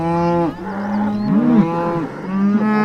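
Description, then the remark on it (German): Several cattle and calves moo loudly during a herd drive on horseback, overlapping calls with deep, drawn-out bellows and some higher-pitched lowing, continuous throughout with no talking. “Dann langsamer das Ganze, dass wir die Kälber mitkriegen, nicht, dass einer irgendwo dann einen verkehrten Weg nimmt oder an irgendeinem Zaun hängen bleibt und da nicht”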